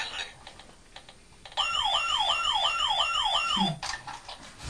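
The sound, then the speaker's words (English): An ambulance siren wails loudly for about two seconds, its pitch sweeping up and down in quick repeated cycles, then cuts off abruptly against a quieter background of faint tapping. “You missed the ambulance”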